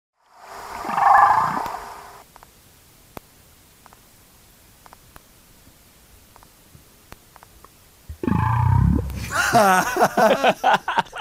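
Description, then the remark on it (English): A sound emitted from a boat at a humpback whale is followed by a few seconds of near silence, then the whale's response: a low, rising humpback whale whoop call, preceded by an earlier tonal moaning call and followed by a burst of complex, harmonic whale sounds. “No, this is either a whoop or a throp.”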